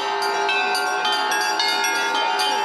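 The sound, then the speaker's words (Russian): Church bells ring out in a lively, rapid peal, overlapping strikes layering into a rich, sustained metallic shimmer, at the opening of the «Pokrovsky Perezvon» bell-ringing festival on church grounds, with bell ringers from Krasnodar and Stavropol Krais and Rostov Oblast. The ringing is loud and continuous, with no voices. “После службы на территории храма открылся фестиваль колокольного звона «Покровский перезвон», который собрал звонарей из Краснодарского и Ставропольского края и Ростовской области.”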